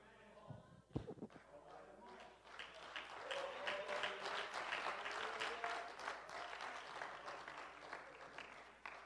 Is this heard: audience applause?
yes